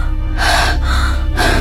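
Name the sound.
gasping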